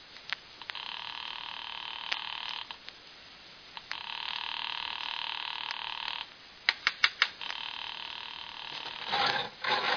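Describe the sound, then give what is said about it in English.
A telephone call to Webber's apartment rings over the line again and again with no answer, long steady buzzing rings separated by short pauses, with a few sharp clicks between rings and no voices. “I'll ring Webber's apartment just in case.”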